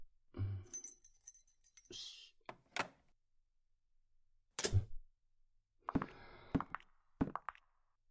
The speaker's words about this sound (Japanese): ここ俺の部屋。待ってて、鍵出すから。